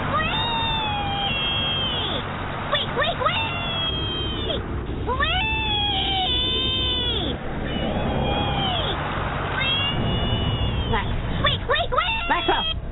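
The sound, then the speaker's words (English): In a Geico car insurance commercial, a little piggy cries out in high-pitched, drawn-out squeals of "wee, wee, wee" all the way home, repeated in several bursts over a steady rumble like a moving car. “Did the little piggy cry wee, wee, wee all the way home?”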